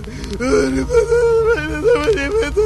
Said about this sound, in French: Je l'entends qui pleure.